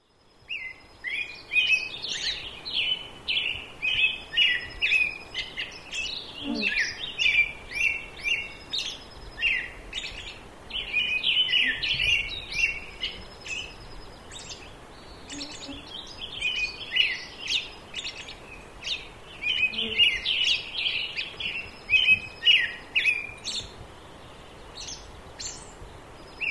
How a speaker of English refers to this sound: Notice the difference in the background sounds between what you just listened to and this recording of some birds early in the morning in the Sierra Mountains. There are no cars or trains here, but you will hear a mosquito buzzing by.